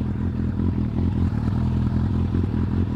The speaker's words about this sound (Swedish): Lyssna! Ja, Peter har startat motorcykeln.